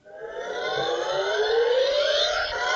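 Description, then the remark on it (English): A toy's electronic siren sound effect wails loudly and steadily, its harmonic tones sweeping slowly upward over nearly three seconds with no voices. “I actually ripped my headset out of the computer, scrambling to get my toy”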